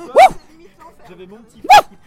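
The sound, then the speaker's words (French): A person imitates a dog barking with two loud, sharp woofs spaced over a second apart, quieter murmuring voices in between. “On a eu la cocotte, on a eu la vache, maintenant il faut le chien.”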